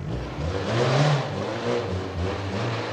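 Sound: car engine running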